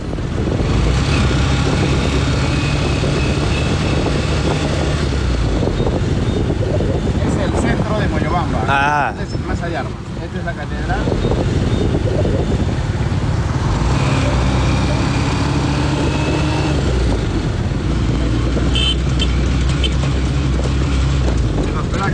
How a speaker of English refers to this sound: the man who owns the hotel I'm staying in, has come to pick me up from the bus in his tuk-tuk and bring me to his accommodation.